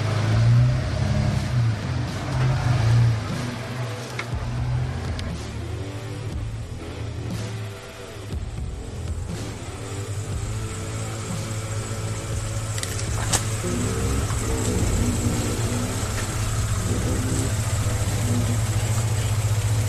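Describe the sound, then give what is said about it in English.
A pickup truck engine rumbles steadily at low revs as the vehicle crawls slowly over rough ground, heading up a waterfall. The deep drone holds for the whole stretch, with faint rattles and shifts in load. “If ever, my truck basically walks up pretty much anything, even in the rain.”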